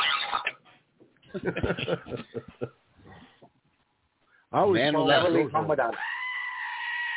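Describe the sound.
After a few seconds of talking, a loud, wavering goat bleat rings out, trembling at first and then holding a steady, drawn-out note until the end.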